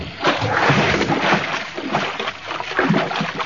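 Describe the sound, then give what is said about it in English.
Loud, churning splashing of water, a steady rush of turbulent sloshing with a few stronger bursts, as a man dives into the water by a wharf. No voices are heard. “Grab the tiller, Natisa. I'm going in after him.”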